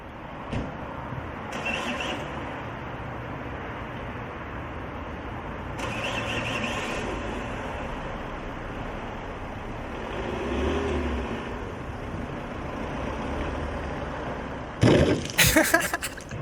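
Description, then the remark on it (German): A car engine in a played video drones steadily for the whole stretch, surging in a few louder revs, with a sharp squealing burst near the end; no one speaks. “Das ist Manuel, sein Auto.”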